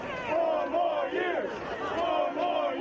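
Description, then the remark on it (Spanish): A crowd of Donald Trump supporters in the streets of Washington, D.C. chants in unison with a rising and falling rhythmic cadence, steady and fairly loud, shouting that there is still no president-elect. “Aplaudidos por el propio mandatario, que salió a saludarlos desde su auto, sus partidarios gritan que aún no hay presidente electo.”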